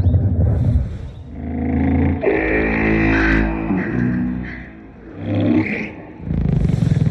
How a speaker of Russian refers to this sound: В нем герои отправляются на гигантскую черную половинку Тик-Така и через стекло смотрят на то, как инопланетяне парятся в сауне и издают такие же звуки, как и мой живот после фалафеля.